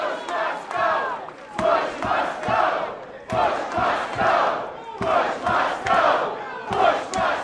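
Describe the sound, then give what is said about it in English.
A large crowd of sheet metal union members at a rally for Edwards chants its own rhythmic refrain in unison, decrying the man they want to defeat, phrases repeating every couple of seconds with sharp claps or shouts punctuating the beat, loud throughout. “They chanted Edwards, Edwards when cued, but when they weren't being prompted, the crowd struck up their own refrain.”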